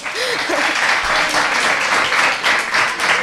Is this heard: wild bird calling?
no